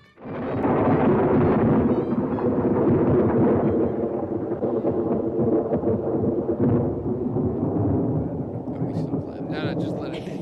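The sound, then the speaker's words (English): A loud thunderclap breaks in and rolls on as a long, deep rumble, staying heavy and steady for about ten seconds before easing slightly near the end. “How do I get to the thunderclap?”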